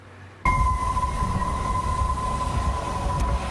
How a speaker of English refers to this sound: This is what one of our photographers heard as he crossed the Golden Gate Bridge, an eerie whistle from those gale force winds.